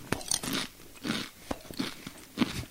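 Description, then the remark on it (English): Crunching and chewing of a crisp, spicy chip, several sharp crackly bites repeating in a steady rhythm, loud with no talking. “That's listen to me eat. Nom, nom, nom.”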